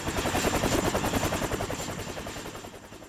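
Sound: helicopter flying overhead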